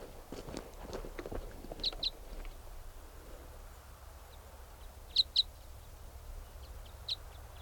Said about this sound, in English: There's another type 5 bird around calling in response to 395, who's loud there, and this bird might come in.